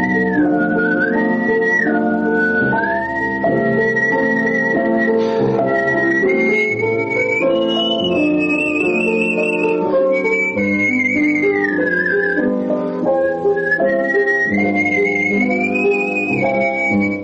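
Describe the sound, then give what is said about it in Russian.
A skilled whistler carries a flowing melody with smooth glides and vibrato, clear, over steady instrumental accompaniment for the whole stretch. “Вы слушаете передачу … «Художественный свист».”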